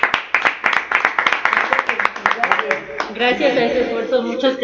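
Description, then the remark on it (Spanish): A small group claps briskly and unevenly for about three seconds, fairly loud, then the clapping gives way to voices calling out; the applause celebrates the 10th anniversary of Radio AMLO. “Pues vamos a brindarles un caluroso aplauso por el aniversario, ¿no?”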